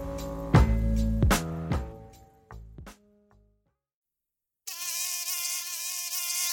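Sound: mosquito buzzing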